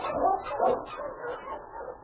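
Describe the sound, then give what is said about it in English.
A dog from Sergeant Preston's dog team, stopped at a cabin at Indian Creek, gives several short, sharp barks mixed with high whimpering yelps, fairly loud, in quick succession over about two seconds. “Meantime, Sergeant Preston of the Northwest Mounted Police stopped his dog team at a cabin at Indian Creek.”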